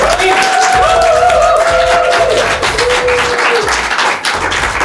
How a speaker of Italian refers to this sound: Nel senso, quando uno ci butta dentro dell'energia e questa energia viene amplificata e ritorna da tutte le famiglie, è bello, fatevi un applauso in diretta.